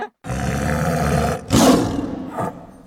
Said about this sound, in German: Hund, oder? Nee, größer. Der Wolf. Noch größer. Löwe. Fast, mit Streifen. Tiger.